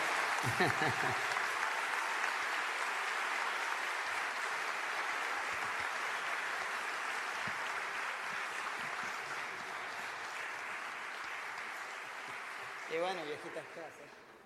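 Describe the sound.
An audience claps steadily in a dense, sustained wash that barely fades over about fifteen seconds, with a voice breaking through briefly at the start and again near the end.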